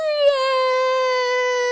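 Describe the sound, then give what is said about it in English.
A voice imitates a crying boy with one long, steady wail that dips slightly in pitch. It is fairly loud, with no other sounds or talking. “And the boy jumped under the bed and started to cry.”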